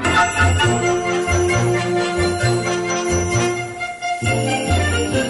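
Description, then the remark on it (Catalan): Sleigh bells jingle steadily through a lively full orchestral passage, their bright shimmer riding over rhythmic strings and brass at a brisk, bouncing tempo. “I finalment, el tercer instrument de percussió que hi trobarem i que ens connecta amb l'imaginari nadalenc són els cascavells.”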